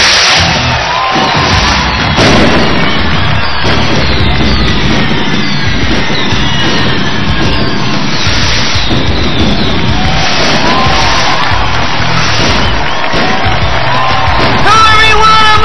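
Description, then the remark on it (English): A huge record-setting crowd at the PA Arena in Kissimmee, Florida, roars and cheers continuously at a wrestling event, with whoops, yells and shouts rising out of a dense, loud wall of noise that swells in waves throughout. “and my God, can you believe the record-setting crowd here at the PA Arena, located here in the heart of Kissimmee, Florida.”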